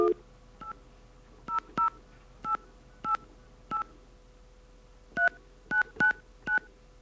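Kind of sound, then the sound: signal or alarm, telephone keypad dialing tones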